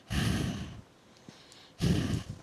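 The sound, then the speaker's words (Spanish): Two heavy breaths blown right into a microphone, each a broad rushing burst lasting most of a second, separated by a quiet pause. No talking. “¿Se dan cuenta de mi respiración?”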